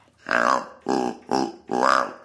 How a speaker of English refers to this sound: Wow, what is that? That is this cool is, as hell. Deer grunter, a mule deer grunter.